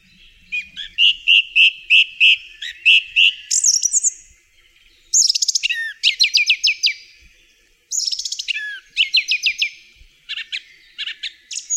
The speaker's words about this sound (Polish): Piosenka śpiewaka to seria donośnych, melodyjnych pogwizdów z charakterystycznie powtarzanymi po kilka razy frazami, zmienianymi po krótkiej przerwie. Śpiewy poszczególnych samców wyraźnie różnią się od siebie.